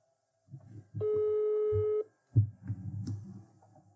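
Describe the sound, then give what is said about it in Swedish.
A single steady telephone ringing tone sounds for about a second as a call is placed, clear and fairly loud, with low murmuring voices and background noise around it and a muffled thump afterward. “Okej, ring min kassa allihopa tysta.”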